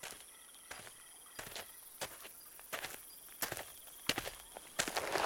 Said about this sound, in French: Vous avez entendu? Des pas? Oui, quelqu'un vient.